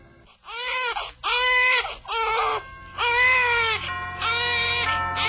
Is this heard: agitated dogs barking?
no